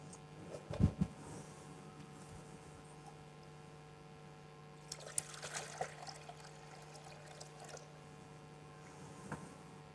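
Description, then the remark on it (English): Water is poured into a baptismal font during a baptism, giving a splash and a soft trickling that continues in bursts against a low steady hum, with no one speaking. “So, friends, we offer a prayer of thanksgiving over the water.”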